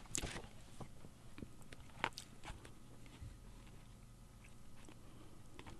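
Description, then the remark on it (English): Quiet rustling as poet Ted Kooser flips through the pages of his book Delights and Shadows, published by Copper Canyon Press, with a couple of sharper crisp flicks standing out against soft, continuous paper shuffling. No one speaks. “He's flipping through Delights and Shadows, which is his most recent book by Copper Canyon Press, and we are privileged to have him read these with permission of the press.”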